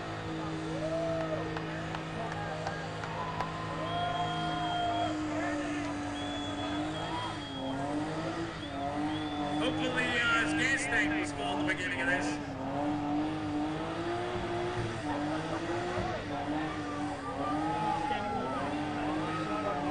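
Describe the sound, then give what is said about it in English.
A car engine roars and revs steadily for the whole stretch during a burnout, its pitch rising and falling, as the car is enveloped in smoke and moves slightly, with loud crowd noise and voices mixed in around it. “This car is being enveloped in smoke. Moving slightly.”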